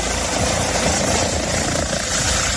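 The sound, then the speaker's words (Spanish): Helicopters of Spain's Military Emergencies Unit, deployed in the morning, roar loudly and steadily overhead, the rotor chop pulsing through a dense, unbroken wash of engine noise with no voices. “La Unidad Militar de Emergencias desplegaba esta mañana sus helicópteros en la zona.”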